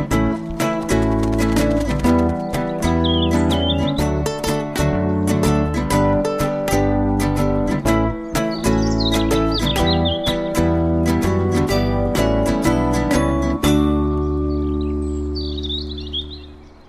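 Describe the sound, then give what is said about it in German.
A robin, Finn, who lives in Hamburg in northern Germany, chirps and trills in a few short, bright bursts, high above a steady, loud instrumental music bed that fades near the end, with the bird briefly alone. “Finn ist ein Rotkehlchen.”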